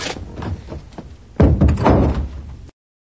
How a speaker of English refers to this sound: Why don't we close the door?